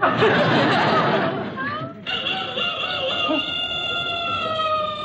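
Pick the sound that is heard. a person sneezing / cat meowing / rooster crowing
rooster crowing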